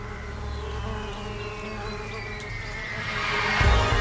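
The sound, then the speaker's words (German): A steady buzzing of bees fills the air, their wings droning in overlapping tones that swell louder toward the end. “Sodass die Luft vom Gesumm der Bienenflügel und den Wörtern der Unbekannten pulsiert.”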